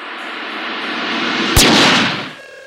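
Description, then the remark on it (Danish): A single loud gunshot cracks out sharply as a ring binder is opened, over a steady background rumble, its echo ringing briefly before fading away. No one speaks. “Så åbner den, og der går skuddet sig af.”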